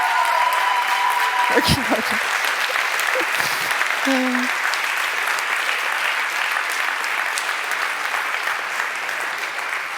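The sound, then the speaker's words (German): Sustained audience applause at a conference fills the whole ten seconds, a dense, steady wash of many hands clapping at an even level, with a few brief tonal blips early on. “Ja, den Applaus möchte ich gern teilen mit all unseren Engeln und unserem Konferenzbüro”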